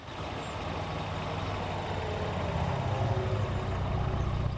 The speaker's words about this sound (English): big blue Ford Cougar drive along the road. She swings it into the drive.